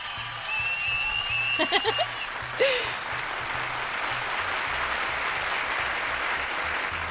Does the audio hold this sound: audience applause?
yes